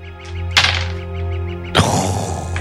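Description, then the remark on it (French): Dice are rolled for an awareness check, landing in two sharp clattering bursts about a second apart, the second trailing into a brief rattle as they settle, over a steady low background hum. “Non, juste les dés.”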